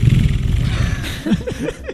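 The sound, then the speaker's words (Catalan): A voice imitates the revving motorcycle from Terminator, a low rumbling drone that breaks into rising and falling throaty revs toward the end. “com fa de moto de Terminator”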